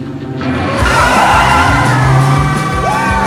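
A convertible car with its top down roars away loudly with revving engine and tire screech, accompanied by excited yelling and whooping voices.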